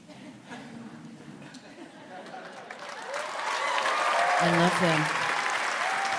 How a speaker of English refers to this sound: Stop clapping, just whisper it.